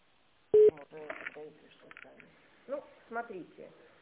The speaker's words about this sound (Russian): Для самостоятельного соединения с сотрудником наберите внутренний номер в тональном режиме или оставайтесь на линии для автоматического соединения с секретарем.